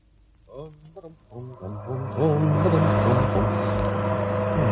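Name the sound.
car engine running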